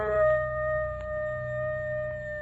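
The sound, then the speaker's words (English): A wolf leading his pack to the kill howls in one long, steady, unbroken note that holds its pitch throughout, moderately loud, with a low rumble underneath and no voices. “It's the howl of a wolf leading his pack to the kill.”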